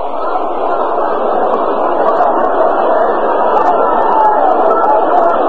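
A crowd of around 40,000 at a night baseball game between the Dodgers and Milwaukee murmurs steadily, a dense, continuous wash of chatter with no single voice standing out and no pauses throughout.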